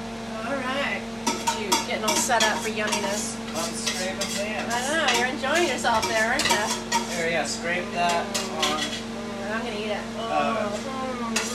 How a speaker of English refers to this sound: I'm just scraping pans over here.